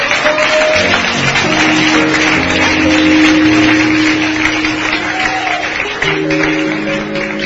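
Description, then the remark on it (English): An audience claps steadily and loudly for several seconds, a dense continuous patter of many hands, with sustained low musical tones humming underneath. “If you want to clap, clap well.”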